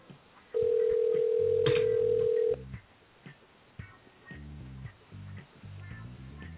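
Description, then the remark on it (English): A telephone rings once: a loud, steady electronic tone held for about two seconds, then cut off, followed by quieter, muffled tonal sounds over a thin line-like background. “Answer the phone.”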